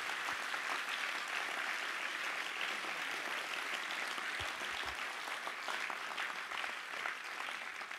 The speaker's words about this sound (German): Unseren Aschern einen riesen Applaus. Mega cool.